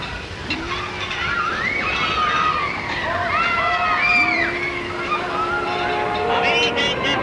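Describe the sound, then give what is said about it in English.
Old 1920s engines rumble and rattle steadily through a busy New York City street scene, with long horn-like tones and crowd voices mixed into the constant noise. “We hear church bells tolling and engines rattling and barkers barking, and these sounds let us glimpse the consciousness of a specific place and a specific time.”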